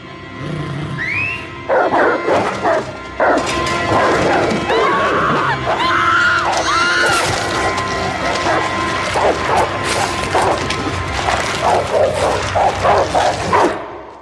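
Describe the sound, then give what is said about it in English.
A loud, chaotic sound effect of dogs attacking and ripping apart a baby: several dogs bark, snarl and yelp over one another, with shrill screaming woven through the frenzy, continuing without pause for about fourteen seconds. “They're really quite amazing, and they don't compare to the sound, of course, of a baby getting ripped apart by dogs, which is the signature sound of this episode.”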